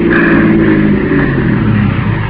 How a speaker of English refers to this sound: Listen. Car's coming.